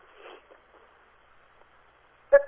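A single sharp, loud sneeze bursts out suddenly at the end, after a couple of seconds of faint, quiet rustling and breathing.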